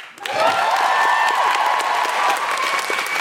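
An audience breaks into sustained, dense applause, a steady wash of many hands clapping at full volume for several seconds, with a few cheers mixed in.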